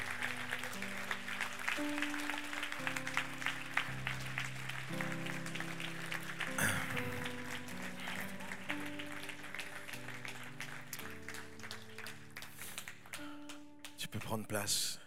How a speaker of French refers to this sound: Et si tu aimes ce même Dieu que moi, je te propose de l'applaudir bien fort, de lui donner toute la gloire ce matin.